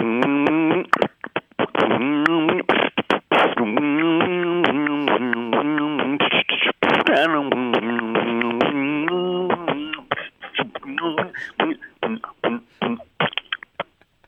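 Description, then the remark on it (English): A single voice hums a bouncy, steady melody of "When the Saints Go Marching In" while punctuating it with sharp mouth-made percussive clicks and thumps imitating drums, fairly loud, trailing off into scattered beatbox hits near the end. “I can hum and beatbox.”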